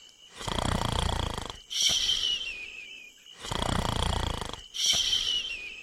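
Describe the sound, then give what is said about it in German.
Three characters, made sleepy by the heat, snore loudly under a tree in a steady cycle: two long rumbling inhales, each followed by a raspy, whistling exhale, with no talking. “Die Hitze macht die drei schläfrig und bald schnarchelt alle unter einem Baum.”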